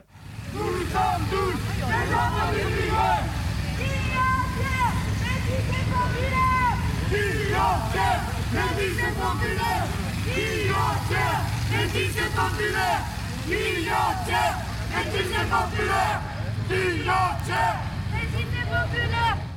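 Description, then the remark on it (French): Busy outdoor street ambience surrounded by about a dozen French CRS riot police vans: a steady, loud low rumble of large vehicles idling, with a constant murmur of many voices chattering throughout. “Alors là, autour de nous, on est entouré de camions CRS.”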